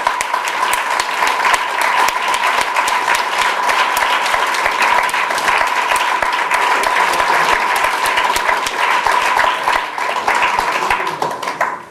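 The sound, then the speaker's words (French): A church audience applauding the Lord: dense, sustained clapping from many hands at a steady loud level for the whole stretch, with a faint tonal hum running underneath and no voices standing out. “Applaudissons le Seigneur.”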